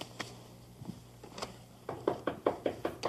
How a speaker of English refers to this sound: Do you hear somebody knocking?